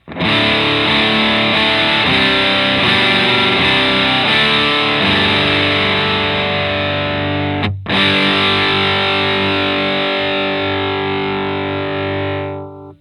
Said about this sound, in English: The Les Paul will be played in the bridge position for all of these tests. Now that we've heard that, we are going to hear what it sounds like with the standard DS1 not modified. And the knobs on the pedal are set to 12 o'clock.